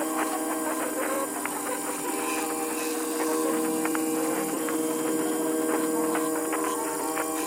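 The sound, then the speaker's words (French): A steady mechanical whir with layered tonal hums and faint ticking from a RepRap 3D printer's motors working continuously as it prints a disc with grooves, with no voices present. “Le projet Sillon débute par la fabrication d'un disque doté de sillons à l'aide d'une imprimante 3D RepRap.”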